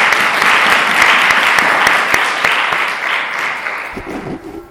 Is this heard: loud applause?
yes